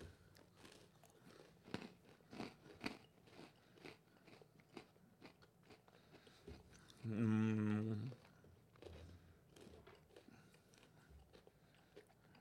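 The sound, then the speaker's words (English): Someone bites into and chews durian fruit, with a steady series of soft, wet crunching and smacking sounds, broken midway by a loud, sustained hummed "mmm" lasting about a second. “Let's give it a try. Cheers. Durian.”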